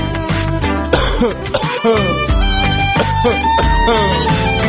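repeated coughing

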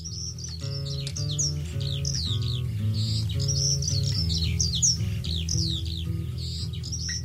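birds chirping and singing

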